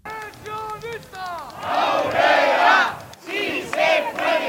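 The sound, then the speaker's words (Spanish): A crowd of Basque pensioners chants slogans such as 'sí se puede' in loud, rhythmic unison as they arrive at the Puerta del Sol in Madrid. Voices rise and fall in repeated shouted phrases, with a brief pause before the chanting resumes strongly. “Al grito de pensionista Caurrera o si se puede, llegaban los pensionistas vascos a la emblemática Puerta del Sol”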